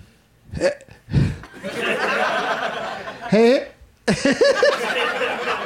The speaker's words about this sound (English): This is going to be interesting to see how this plays out, because I've got hiccups. So, but I'm going to try to soldier through and see what happens.